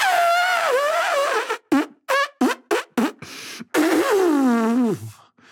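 Loud, exaggerated nose blowing: a long wavering honk, a quick run of about five short snorting blasts, then another drawn-out honk sliding down in pitch, with no talking.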